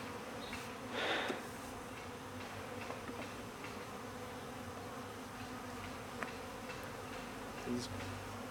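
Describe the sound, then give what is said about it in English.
A dense, steady drone of many honeybees buzzing around an open hive, continuous throughout, with one brief louder swell of buzzing near the start and no voices. “He just squished a bee.”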